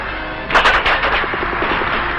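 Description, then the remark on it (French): A burst of rapid gunfire with whistling bullets rings out during a fight to free an airfield where refugees had gathered, with several sharp cracks in quick succession that then settle into a steady, rattling roll of shots over a noisy, crackling background. “C'est dans le sifflement des balles que les réfugiés de l'aérodrome eurent le sentiment de leur délivrance.”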